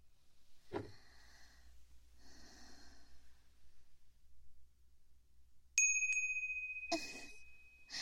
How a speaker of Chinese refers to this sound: 听到这个熟悉的铃声了吗？